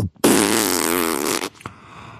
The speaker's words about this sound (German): der hat einfach so laut gefurzt. Was? Der hat einfach so laut gefurzt, während er einfach in mich reindringt.